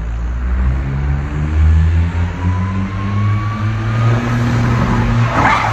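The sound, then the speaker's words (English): A Smart car's engine revs hard and steadily with a rising transmission whine, ending in a sudden burst of tire skid and scraping as the car whips around in a J-turn and flips. No one speaks. “Here's a J-turn in a smart car.”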